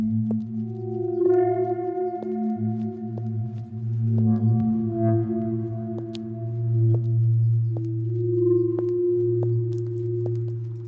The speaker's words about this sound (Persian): صدای قدمای طلا.